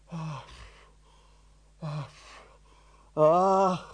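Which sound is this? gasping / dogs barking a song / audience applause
gasping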